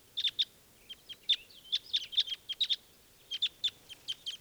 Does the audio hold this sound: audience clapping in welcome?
no